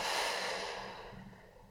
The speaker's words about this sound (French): Prenez maintenant une profonde inspiration par le nez, puis soufflez énergiquement par la bouche.